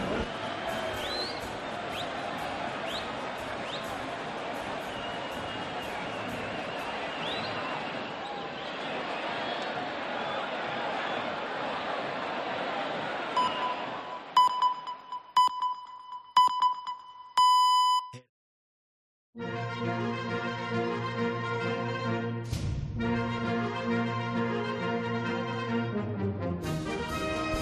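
Busy outdoor crowd ambience of a town square at the Casa Consistorial on 6 July, with some sunshine after threatening rain, a dense murmur of many voices, followed by a series of short, evenly spaced high beeps and then music starting up.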